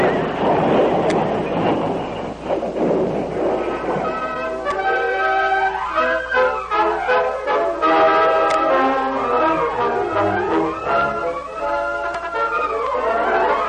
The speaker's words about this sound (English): suddenly, as the stage rounded a sharp turn on the dangerous trail, the left front wheel loosened and flew off. The horses squealed in terror when the heavy vehicle dragged. The traces snapped as the stage catapulted over the side of the embankment.